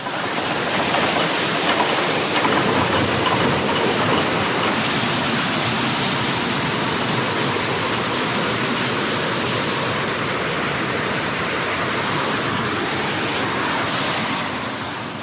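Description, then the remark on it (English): Water rushes steadily through a canal lock's ground paddles as they are opened on the side, a loud, continuous, hissing roar that holds even for about fifteen seconds, with slight shifts in texture and no voices. “So the ones that you're opening on the side are the ground paddles, aren't they? Oh, sounds like it.”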